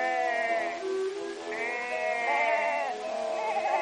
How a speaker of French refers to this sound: Oh, c'est un troupeau de moutons.